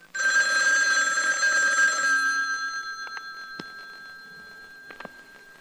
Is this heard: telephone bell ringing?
yes